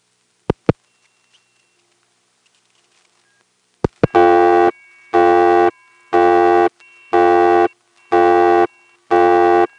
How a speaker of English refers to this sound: If you listen during the busy signal, and I think before it, you'll hear this series of cycling tones on top of it. One tone and then another and then another.